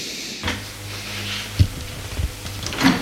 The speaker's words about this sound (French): On a frappé à la porte.